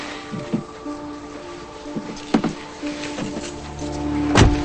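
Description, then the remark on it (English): A car's passenger door thuds shut near the end, a heavy slam preceded by a few softer knocks and shuffles over a steady low hum, with no voices. “He shuts the door and she feels things around her.”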